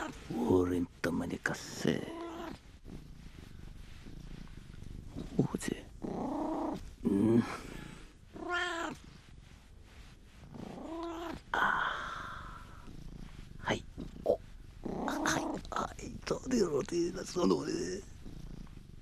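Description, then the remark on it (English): A cat purrs continuously while letting out a series of drawn-out, rising and falling meows at irregular intervals, moderately loud and without other sounds competing. “In parts of Japan, they believe that rubbing the stomach of a cat across your scalp can make your hair grow back.”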